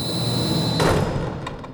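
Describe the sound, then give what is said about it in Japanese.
A heavy door to the outside, in the hall of a mansion, slams shut with a single loud, deep thud, followed by a few fainter rattling knocks as it settles, over a steady low background hum. “外への扉が閉まった。”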